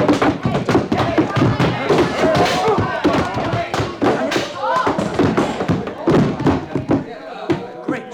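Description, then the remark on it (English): A chaotic scuffle of repeated heavy thuds and punches landing in quick irregular succession as a man is knocked out, with voices and grunts mixed in throughout before the hits thin out near the end. “You knocked him out.”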